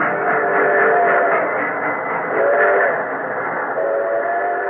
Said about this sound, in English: Over the railroads that had been so laboriously laid eastward to the Urals and beyond to the great spaces of Soviet Asia, the trains moved, heavily laden with the transplanted industry.